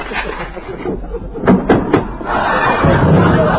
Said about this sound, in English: Yeah, sure, that door needs a little oiling, don't it?